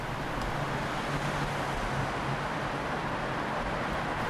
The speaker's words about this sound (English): as a weary driver stops the thrumming bus outside the tunnel's edge.